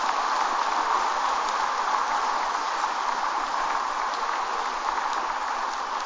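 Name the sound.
applause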